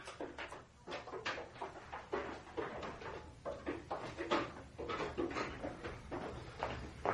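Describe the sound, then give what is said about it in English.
A window is tried and worked open by something trying to get out of a room: a steady run of wooden knocks, rattles and scrapes, moderately loud, with no talking. “It's trying to open the window.”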